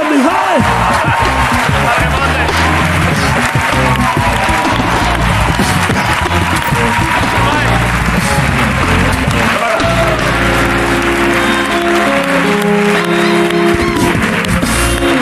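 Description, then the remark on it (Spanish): A large audience bursts into sustained applause for comedian Jorge Ponce, dense clapping mixed with cheers and whoops, loud, continuing steadily for the whole stretch with some crowd voices underneath. “creo que estaría guay que ya todos le podamos ver y aplaudir y disfrutar de todo lo que hace Jorge Ponce, así que un aplauso.”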